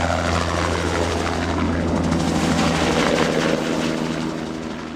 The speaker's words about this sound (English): Two hulking heavy-lift helicopters called sky cranes take off first, rising slowly like steel dragonflies. They head for the river, dangling hoses which will suck up 3,000 gallons of water in less than a minute.